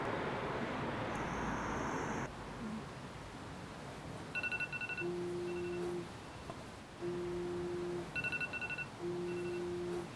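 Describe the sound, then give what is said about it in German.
A steady wash of street traffic noise on a cold night around 11:30 pm, joined by repeating electronic beeps: bursts of rapid high chirps alternating with longer, low two-toned tones in a regular cycle. No one speaks. “Ist kalt, man hört die Straße.”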